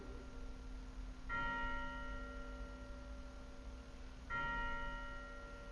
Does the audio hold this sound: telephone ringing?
no